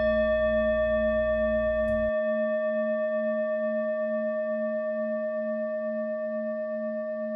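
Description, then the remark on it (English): A meditation bell rings once to signal the end of a meditation. It sustains a long, clear, shimmering tone that wavers gently as it slowly fades. A low hum underneath cuts out after the first couple of seconds. “That bell signals the end of the meditation.”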